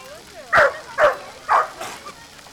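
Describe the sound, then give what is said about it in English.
A small dog barks and yips at a night-time gathering of many dogs by a pool: three sharp, high-pitched barks about half a second apart, followed by a couple of fainter yips trailing off. “He's a 5-year-old Chiweenie, and he loves to swim, but there's a lot of stuff going on here, a lot of dogs.”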